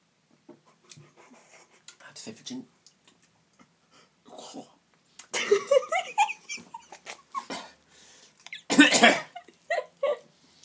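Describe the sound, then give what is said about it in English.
Breathy sniffing of ginger beer followed by a few short slurping sips of it, scattered bursts with quiet gaps between them and one louder noisy rush near the end. “I'm just going to take a sip now.”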